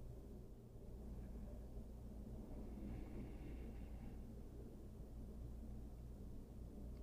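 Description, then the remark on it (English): A steady, low rumble of traffic from cars rushing past outside on a warm day runs without a break for the whole stretch. It stays soft and even, with a faint brief rise in the middle and no voices. “If something else catches your attention, here there are cars rushing outside, it's warm.”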